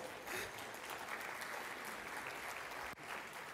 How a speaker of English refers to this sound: Yeah, you can give him a round of applause. That's okay.